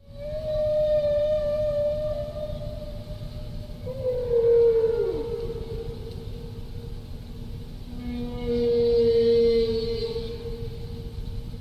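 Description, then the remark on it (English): A whale song phrase of long, pure tonal moans that swoop and bend, then repeat, with a wavering, yodel-like sweep in the middle, heard alone over a low, rumbling underwater hiss. “Now that's one phrase, and the whale repeats its phrase and sort of yodels the second time.”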